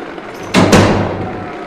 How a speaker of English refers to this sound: He goes through one locked door. And another locked door. And one last locked door.